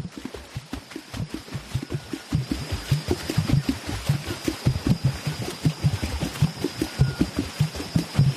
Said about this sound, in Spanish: Y esto que escuchamos, que es maravilloso, son los tambores de agua de las mujeres. Se meten en el agua hasta la cintura, en una charca, y empiezan a palmotear con las manos y hacen esta música.